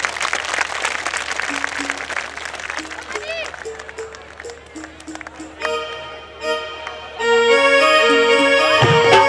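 A large crowd of devotees claps loudly to welcome the party organizer, in a dense, steady burst that gradually thins out as tuneful instrumental music with sustained notes rises and takes over toward the end.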